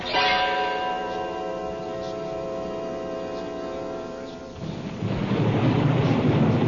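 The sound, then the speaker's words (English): A steady droning hum gives way to a loud, broad rumble of thunder from an approaching storm, rolling in over the last couple of seconds, deep and sustained with no voices. “Oh, we're going to have a storm.”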